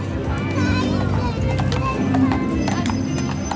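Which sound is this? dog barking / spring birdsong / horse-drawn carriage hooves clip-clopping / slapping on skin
horse-drawn carriage hooves clip-clopping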